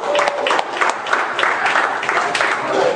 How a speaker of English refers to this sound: Now, guys, give these ladies a hand of applause. Come on, guys. Come on.